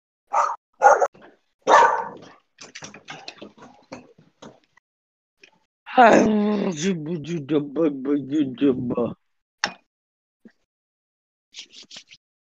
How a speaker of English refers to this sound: Hey, Frodo. Oh, Frodo, that's your dog.